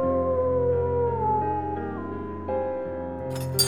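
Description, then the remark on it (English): Coyotes on a bench of land not far away howl in a long, wavering chorus, their pitches sliding and breaking as the cries overlap, steady and moderately loud, ending with a brief sharp yip. “listened to the broken cry of the coyotes on the bench not far away.”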